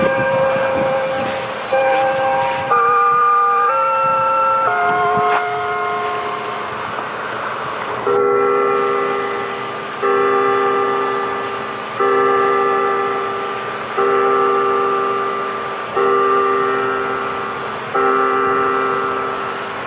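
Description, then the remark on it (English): Bells toll at Mountain Cemetery on July 8, 1998, loudly, a cluster of overlapping pitches at first, then a steady sequence of struck chords roughly every two seconds, each one fading before the next. No one speaks. “As the bells finish tolling in the background on July 8, 1998, 2 days after the gathering, I'm sitting down alone in reflection at Mountain Cemetery.”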